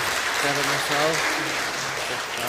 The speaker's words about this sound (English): I give him a round of applause. He's off 3 weeks.